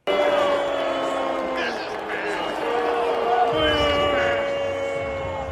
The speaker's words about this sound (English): Yeah, they're booing, but if the Sox lose just one more game, one more, y'all, they have five left, they'll surpass the 1962 New York Mets for most losses in a season.